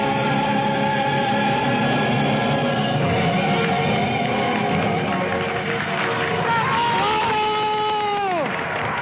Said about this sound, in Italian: Applausi, la registrazione ovviamente non si sente bene,